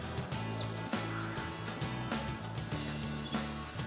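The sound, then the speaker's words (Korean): A mountain bluebird, the state bird of Idaho, a small bird of brilliant blue colour, sings a series of high, quick chirps and short warbling phrases, fairly clear, over a steady low musical drone throughout. “Our state bird is the mountain bluebird.”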